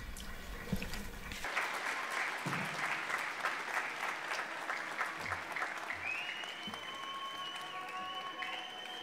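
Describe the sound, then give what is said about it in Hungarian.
Sustained applause from an audience of young people welcoming a priest from Spain who is to give a testimony, a dense steady patter of many hands clapping for several seconds after a brief low rumble at the start, with faint tonal sounds emerging near the end. “köszöntsük őt egy nagy tapssal”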